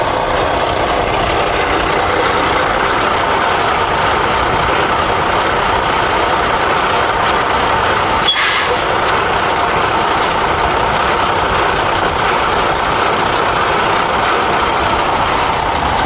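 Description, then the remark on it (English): A truck engine idles steadily and loudly for the whole stretch, a constant rumbling drone with one brief sharp click near the middle and no voices. “Hey, stop the truck.”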